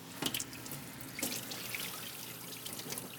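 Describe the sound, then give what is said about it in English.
Cold water runs steadily from a tap into a sink, splashing over a ham being rinsed after eight days in brine to remove excess surface salt, with a few brief louder gushes near the start; no voices. “What we want to do is rinse off the surface with cold water.”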